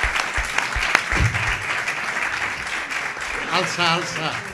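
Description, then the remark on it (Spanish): An audience of mostly mathematics students applauds steadily for a former culture councillor at a talk, dense overlapping claps forming a loud, even wash of noise, with a few voices and a brief shout or cheer rising over it near the end. “Yo quiero que ustedes le dediquen un aplauso a él porque él es el autor y el ideal.”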